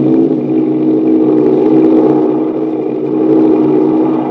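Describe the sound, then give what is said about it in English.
A silver Douglas 14-berth sleeper propeller airliner, the American Airlines flagship, takes off down the runway on a flight to New York, its engines a loud, steady, throbbing drone with a rough, buzzing roar that holds strong throughout, with no voices. “And there it goes. Speeding down the runway, the silver plane glides into the air.”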